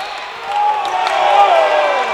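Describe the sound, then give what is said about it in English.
A basketball crowd reacts loudly to a foul called on Charles Smith, which they thought should have been an offensive foul, a sustained wash of many voices swelling and holding steady for a couple of seconds, with scattered shouts rising above the broad roar. “Well, as you can tell by the crowd's reaction, they thought that should have been an offensive foul.”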